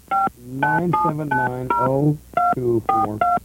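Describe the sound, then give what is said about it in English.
A quick, uneven string of telephone keypad DTMF tones, about eight short beeps in a row, clear, as someone dials a phone number during a radio show, with someone talking between and over the button presses. “Hey, listen, you just got to try that number on your own, okay?”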